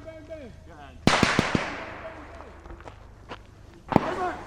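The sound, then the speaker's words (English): A loud IED explosion erupts with a quick burst of sharp cracks, then rumbles away into a long fading tail before a second blast, a second IED going off behind a team of Marines, hits near the end. Voices shout faintly underneath. “That last explosion is a second IED going off behind the team.”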